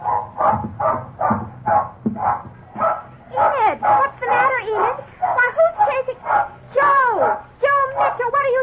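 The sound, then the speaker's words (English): Enid, a young terrier, barks wildly and nonstop in a yard, a rapid string of sharp yaps mixed with higher whining yelps, loud and frantic throughout with barely a pause between barks. “You can understand our big surprise when suddenly Enid began barking wildly.”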